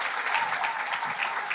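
Steady audience applause, a dense crackle of many hands clapping at once, holding a fairly even loudness throughout with no voices standing out.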